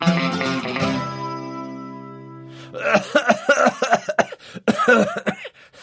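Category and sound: human body sound, repeated coughing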